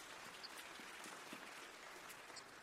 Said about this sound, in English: So please clap for what the Lord is doing.